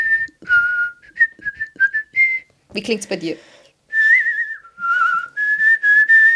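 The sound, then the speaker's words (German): Someone whistles the bouncy Mickey Mouse melody from Steamboat Willie: clear choppy notes followed by longer sliding tones, with a short spoken question breaking in midway. “Wenn ich pfeifen würde, würde es bei mir klingen.”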